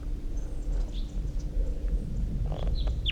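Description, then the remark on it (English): A wild bird sings a short phrase of thin, high chirps, a couple faint early on and a brighter pair of quick whistles at the end, over a constant low rumble. “Wild bird in flight. Wild bird song phrase.”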